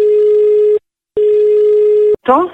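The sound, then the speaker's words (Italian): A telephone line tone sounds as two long, steady electronic beeps separated by a brief pause, loud, before a voice starts speaking at the very end, opening a prank phone call on Radio Toscana. “Via il telefono.”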